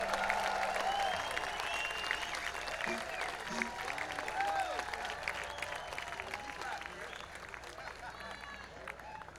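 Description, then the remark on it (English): An audience applauds steadily in a dense wash of clapping, with scattered voices and cheers mixed in, holding strong for several seconds before easing slightly toward the end. “Hold your applause, please, for Albuquerque.”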